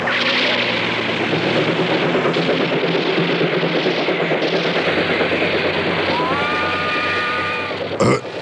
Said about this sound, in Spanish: Después de una curva, un largo y veloz tren de pasajeros se aproxima al camión de los samuráis y se empareja a él. Los oídos altamente perceptivos de Calimán captan ese ruido en el interior del vehículo.